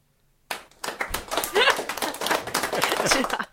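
A burst of applause starts abruptly and continues steadily for about three seconds, dense overlapping claps from a small crowd, fairly loud and even throughout.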